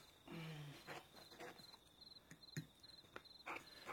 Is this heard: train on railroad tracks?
no